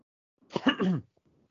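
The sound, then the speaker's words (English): A single short, throaty cough, a quick burst of breathy noise lasting about half a second, followed by quiet. “I just had to do a slight cough.”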